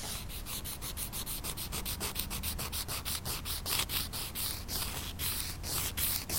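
A nail file, used in an ASMR video, scrapes back and forth in quick, steady strokes, a harsh, gritty rasp repeating about three or four times a second with no talking.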